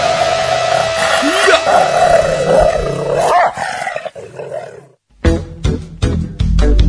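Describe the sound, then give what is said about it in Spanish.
A bored dog snarls and growls loudly in a rough, sustained burst as it bites the leg of whoever is going last. After a brief silence, voices start talking. “Un perro aburrido que muerde la pierna del que va último.”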